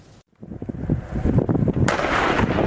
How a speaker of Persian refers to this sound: تبادل آتش در مرز لبنان و اسرائیل، تنش تازه‌ای که آغازگر آن حزب الله حمایت شده از سوی جمهوری اسلامی ایران بود، بنابر آنچه خود اعلام کرد، و واکنش توپخانه ارتش اسرائیل که اعتراض ساکنان جنوب لبنان را در پی داشت.